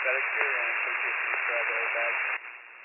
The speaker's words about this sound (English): Static here, and I'm 46 there's a lot of static.